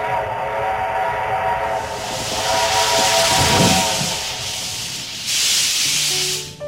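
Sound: steam train departing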